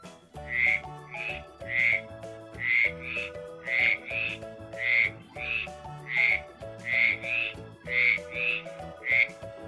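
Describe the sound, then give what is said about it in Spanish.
Eight frogs and toads croaking in a steady, rapid series of short, bright calls, roughly two per second, fairly loud, with a soft musical backing underneath and no talking. “8 ranas y sapos. 1, 2, 3, 4, 5, 6, 7 y 8. ¿Y cómo cantan los sapos?”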